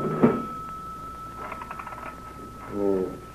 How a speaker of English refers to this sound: I'm going out the back door. Be sure and lock it.